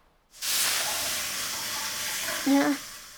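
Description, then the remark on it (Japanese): A sudden, loud burst of steam hissing erupts in a sauna as aroma water is poured, after a brief silence, holding steady for nearly three seconds, with a faint tonal whistle rising near the end. “それじゃあ蒸気失礼しますね。”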